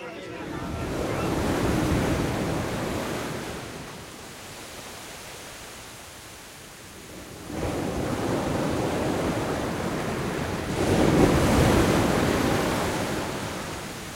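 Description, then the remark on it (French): Ocean waves break on the shore in broad, rushing swells, surging louder around two seconds and again from eight to twelve seconds before easing back, with no voices. “Entendre le son des vagues lorsqu'elles s'agrippent à la terre ferme.”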